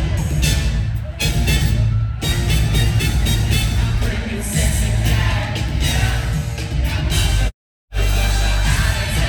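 A concert crowd at the Wiltern cheers and yells loudly as a guest R&B singer is invited on stage, a dense, continuous roar with whoops and shouts rising above it, broken by a brief moment of silence near the end.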